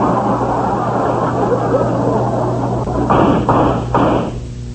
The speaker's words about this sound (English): Hey, those shots came from outside the office.